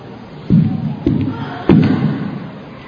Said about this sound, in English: You hear the knock on the door.